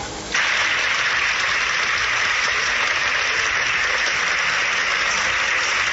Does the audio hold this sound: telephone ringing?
no